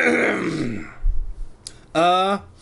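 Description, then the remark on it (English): A voice clears its throat: a descending, groaning vocal sound, a low rough rumble, then a short, clipped voiced 'hm' at the end, with no words spoken. “You clear your throat.”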